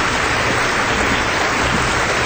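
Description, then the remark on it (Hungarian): Steady crowd applause fills the whole stretch, a dense, even wash of many hands clapping at once, loud and continuous with no voices heard over it. “Na ez az, a régi tapsolók megérkeztek.”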